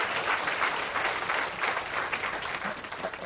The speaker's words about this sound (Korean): 20대 연주자들 세 분 계십니까? 우리 박수로 감사를 표하십시다.